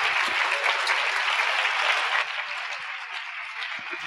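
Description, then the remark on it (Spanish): A crowd at a company business-opportunity presentation claps steadily for a speaker in a dense, continuous wash of applause, sustained throughout and easing slightly in loudness toward the end, with no one speaking over it. “Un aplauso más fuerte”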